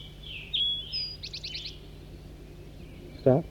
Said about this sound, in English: And I hear a big flock of crossbills down to the south.